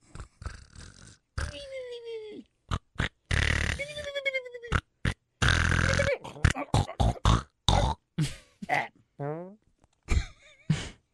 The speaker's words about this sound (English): I always ends in a fart.